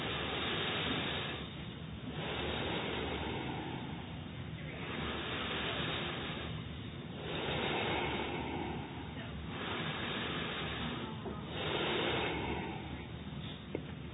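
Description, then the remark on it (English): Several long, airy inhales through both nostrils follow one another in a steady rhythm during a breathing meditation, each a broad rushing hiss lasting a couple of seconds, separated by brief pauses, with no talking. “So now from the both nostrils, inhale.”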